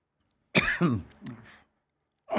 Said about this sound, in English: Excuse me, ladies. No, no problem. You're okay. Yeah. I have that dry cough.